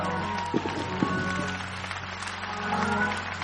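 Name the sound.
audience clapping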